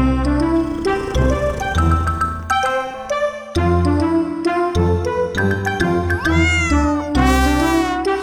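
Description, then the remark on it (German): A tomcat meows over and over for food, loud, with long drawn-out cries that rise and fall in pitch, running back to back with no talking. “Du willst jetzt nicht echt was zu essen. Fredo. Ich würde jetzt eigentlich ganz gerne hier die Nullfolge auf... Ja, machst du jetzt so lange... Kater.”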